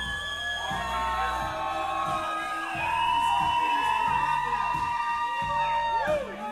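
A large audience screams and cheers loudly and continuously, a dense wall of shrill voices and whoops that swells slightly louder midway, with rhythmic low thumping underneath.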